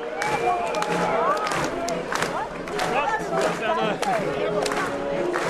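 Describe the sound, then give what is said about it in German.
A crowd of about 2500 people under a tent cheers and shouts bravo over a dense, steady wash of voices, with scattered clapping along to music mixed into the noisy, continuous roar. “Gut 2500 Menschen erheben sich von ihren Plätzen, klatschen zur Musik, recken die Hälse. Bravo-Rufe sind zu hören.”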